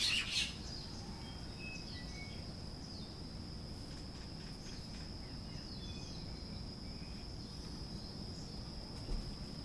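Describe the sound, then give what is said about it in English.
Faint birds chirp in short, scattered bursts over a steady high-pitched insect-like drone and a low background rumble. No one speaks. “Birds are very excited about what I just said.”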